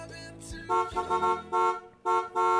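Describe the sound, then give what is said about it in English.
A series of loud, bright car horn honks in an uneven rhythm, several short blasts and longer toots, over a brief musical jingle bed, part of a station jingle for WTBR-FM, Pittsfield Community Radio. “That little beep, I used to start talking before the beep. I've learned I got to wait till the car horn.”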